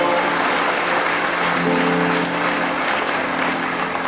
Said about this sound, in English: That applause was from one or two fairly thick people in this audience.